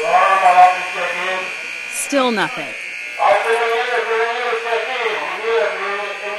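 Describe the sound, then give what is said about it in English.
A harsh, steady prison alarm buzz, triggered by an officer, drones continuously and loudly throughout, with a person speaking briefly over it partway through. “A supervisor in the command center uses the overhead speaker system to get the officer who triggered the alarm to check in.”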